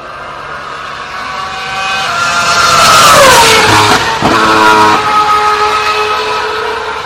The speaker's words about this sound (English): you've no doubt noticed how the frequency is a little bit higher as the car approaches, and then drops as the car speeds away. Here's a little retro V8 sound of a car screaming toward Eau Rouge and rubbing the curb a little bit too.